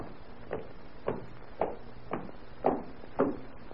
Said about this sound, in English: Sonia sits alone in her cell, hoping that each footfall may be Ivan returning. At last, footsteps are heard approaching. Sonia tense with expectation.